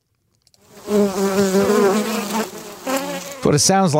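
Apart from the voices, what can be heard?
honeybees buzzing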